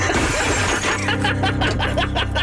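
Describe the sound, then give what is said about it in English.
A loud shattering crash of glass as the window of an old Firebird car is smashed in with a crowbar, with a dense burst of crackling debris and impact noise continuing for a couple of seconds, in the opening scene of The OC. “He smashes the window in with a crowbar.”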